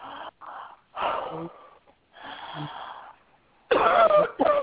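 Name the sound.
coughing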